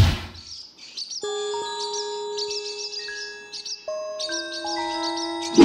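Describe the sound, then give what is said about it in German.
Swallows twitter in quick bursts of high, thin chirps throughout as they glide over a roof terrace, while layered sustained ringing tones, like soft chimes, enter after a moment and hold steadily underneath. “Schön, wie die Schwalben über unsere Dachterrasse segeln.”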